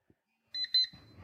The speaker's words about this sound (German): Aktiviert sich der Wecker und gibt mir die Nachricht, du bist gleich da.